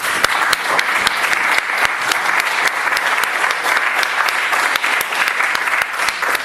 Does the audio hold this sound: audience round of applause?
yes